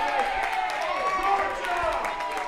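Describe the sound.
A lively crowd of overlapping voices cheering and shouting, with scattered claps mixed in, holding a steady, loud level for the whole stretch.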